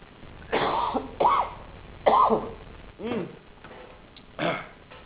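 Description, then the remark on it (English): A person coughs and clears their throat several times in a row, with short, rough bursts separated by brief pauses. No talking is heard. “One day we will have glorified bodies, no more colds, no more hoarse throats, no more coughs.”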